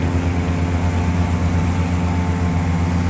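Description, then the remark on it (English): Steady, unbroken rushing wind noise, the AccuFuel wind sound, fills the whole stretch while it is raining, layered over a deep, constant droning hum with no pauses or voices. “The AccuFuel wind sound is definitely prominent.”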